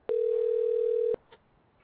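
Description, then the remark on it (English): A telephone ringback tone sounds once, a steady mid-pitched beep lasting about a second and fairly loud, then cuts off into near silence with a faint brief click as the phone call goes unanswered. No one speaks. “She's not answering the phone.”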